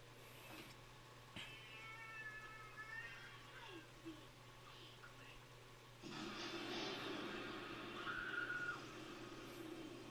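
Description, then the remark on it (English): A cat lets out a drawn-out, wavering meow over a steady low hum, followed by a few softer mewing sounds before a louder rushing noise fills the background. “She thinks it's the cat again.”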